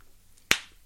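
A single sharp, loud slap on skin lands close by, a crisp crack that fades quickly in an otherwise quiet room, with another brief hit starting at the very end.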